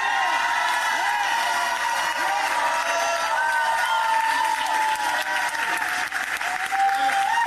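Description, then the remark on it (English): A crowd at a Philadelphia City Council meeting erupts in sustained, loud applause mixed with cheering and scattered whoops as a councilmember speaks on the ICE Out bill, a dense steady wash of clapping that continues throughout without a break. “Councilmember … spoke as the room erupted in cheers.”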